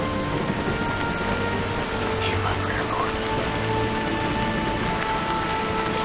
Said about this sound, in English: He opens his eyes, but for the thunder and the beat of the torrential rain, all is silent.